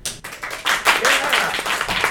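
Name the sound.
audience round of applause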